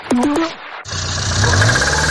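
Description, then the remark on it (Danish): Three quick, tonal sputters from a car engine give way, after a brief gap, to a loud, steady, rough-running rumble with a low uneven drone, a strange noise a car should not make, with no voices. “Nej, sådan skal bilen da vist ikke lyde.”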